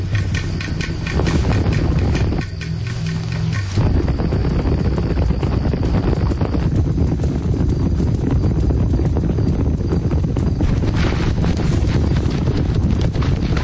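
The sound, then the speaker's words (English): A spooked herd of horses stampedes up a valley, a loud, continuous drumming of many galloping hooves over a windy, rumbling background, with no voices. “Meanwhile, the spooked herd stampede up the valley.”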